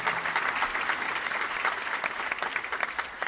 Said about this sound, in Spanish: Fuerte el aplauso